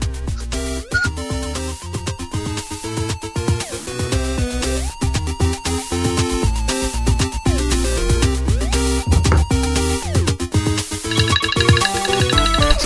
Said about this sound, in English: There's the phone call.